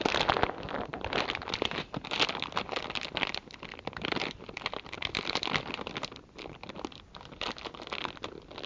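Plastic bags and containers crinkle and rustle continuously as they are handled and pulled open, a busy crackling texture that rises and dips without pause and with no voices.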